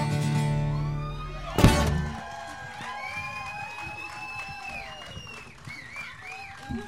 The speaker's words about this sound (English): Thanks so much for clapping, singing along.